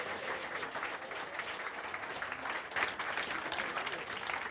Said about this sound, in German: Und wir sind hier live auf dem 32 C3 und wir haben Publikum und das ist toll und ihr müsst jetzt klatschen, damit es auf die Aufnahme kommt wegen Atmo und so.